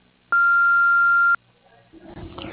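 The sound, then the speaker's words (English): An answering machine gives one loud, steady, high-pitched beep lasting about a second, then cuts off, leaving a low hiss of line noise that grows slightly rougher. “To leave a voice message, please speak after the beep.”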